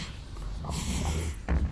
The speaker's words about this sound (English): I think he's sniffing us. Oh, yes. There it is. That nourishing aroma. Your fear. Filling up my nostrils, sweet, delicious fear.